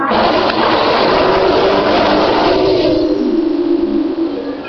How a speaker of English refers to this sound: It's interesting as they come back the other way along the course, you can hear a totally different engine note from the cars, totally different demands on the car.